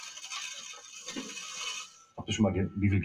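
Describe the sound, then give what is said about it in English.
A coin rolling machine in Germany clatters steadily as coins jingle and rattle through it for about two seconds, then a man's voice starts talking over fainter mechanical noise. “They put together over 120,000 rolls of coins a year using our machines.”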